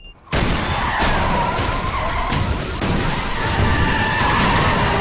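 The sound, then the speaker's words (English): A bus explodes on a busy city street, stopped at a red light: a huge blast bursts in suddenly after a brief quiet moment, then a loud, roaring wash of rumbling noise and clattering debris keeps going without letup. No voices are heard. “The bus explodes in a great star of orange flame engulfing passing cars and people”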